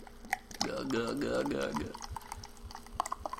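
A pomegranate soda is poured in front of a microphone with a gurgling, rising tone, followed by a scattering of small crackling pops like fizz settling, all fairly quiet with no talking.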